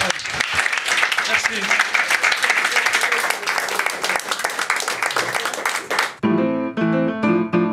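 A crowd applauds a performer loudly for about six seconds, a dense, steady wash of clapping, which then cuts off as tuneful music with clear pitched notes begins.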